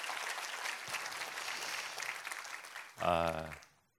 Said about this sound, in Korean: 우리 시강남 공동체 우리 수고하신 여러분에게 한번 힘찬 격려의 박수 부탁합니다.